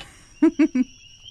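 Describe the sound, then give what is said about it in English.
A mynah bird mimics a coqui frog's call with three short, evenly spaced tonal chirps of steady mid pitch, fairly loud against a quiet background with a faint high whine. “There we go. Koki sound.”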